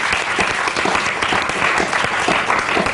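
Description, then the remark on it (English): Steady, full applause from a live audience at the Everyman Cinema Club in Hampstead, a round of applause for David Dimbleby; dense overlapping claps sustained at an even level for a few seconds with no voices. “I think we should still start, though, with the statutory live audience, David Dimbleby, Question Time star round of applause.”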